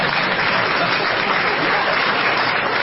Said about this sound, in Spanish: Miren todos los simios que aplauden ahora.